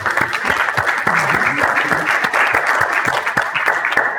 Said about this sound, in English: But again, let's give our panel a round of applause.